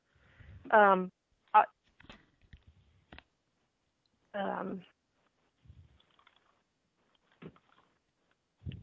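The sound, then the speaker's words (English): Sparse, soft keyboard clicks tap out an irregular rhythm as someone types into a chat during an online meeting, broken by a couple of short murmured vocal sounds and long quiet gaps. “I'm just typing into the chat now.”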